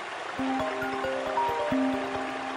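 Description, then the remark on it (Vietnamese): Steady rushing water fills the background like a cascading waterfall, heard while going up to a waterfall, with a bright electronic phone ringtone playing in rhythmic pulses over the constant roar. “Cháu đang lên thác cùng anh Danh ạ”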